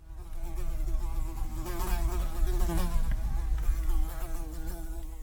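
Several flies buzz steadily around a vegetable garden bed, their droning hum wavering in pitch as they circle, continuous for the whole stretch with no voices.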